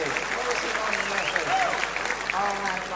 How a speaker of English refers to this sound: Well, they might clap. Absolutely brilliant.